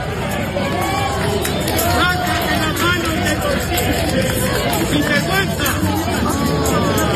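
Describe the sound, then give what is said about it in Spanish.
A dense crowd at the entrance to the Cervantes Prize award ceremony murmurs steadily, many overlapping voices forming a loud, continuous hubbub with occasional raised shouts, reacting to Pedro Sánchez standing with his hands in his pockets in front of Felipe VI. “La gente se dio cuenta de esa postura de Pedro Sánchez y comenzaron los murmullos y algunos gritos.”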